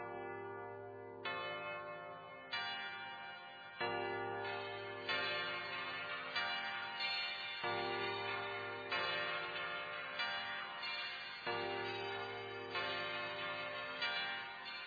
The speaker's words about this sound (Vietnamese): Một hồi chuông nhà thờ làm tôi giật mình, ngẩng đầu lên mới biết mình đang đứng ở trước nhà thờ đá.